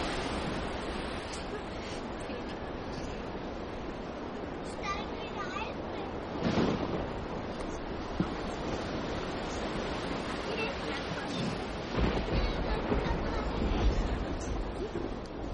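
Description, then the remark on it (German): Rough sea surf with high waves churns steadily with gusting wind, a dense, continuous roar that swells briefly in the middle and again near the end, fairly loud throughout. “Als sich Petrus aber umsah und die hohen Wellen erblickte, bekam er Angst und begann zu winken.”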